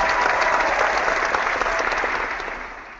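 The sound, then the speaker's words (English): A crowd cheering and applause sound effect: a dense, steady wash of clapping that holds loud for a few seconds, then gradually thins and fades toward the end. “Anyway, let's get the crowd fired up.”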